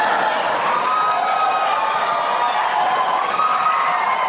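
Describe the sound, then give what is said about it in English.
A large debate audience applauds and cheers after Donald Trump tells Secretary Clinton she would be in jail, a steady, dense roar of clapping and voices that holds at full strength for several seconds without letting up. “We want to remind the audience to please not talk out loud. Please do not applaud.”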